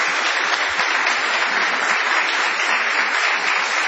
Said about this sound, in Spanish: Prolonguemos nuestra ovación para honrar a Patricio Barton.